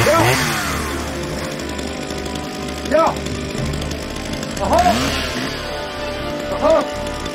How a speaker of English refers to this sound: A worker carries a chainsaw to the tree's base.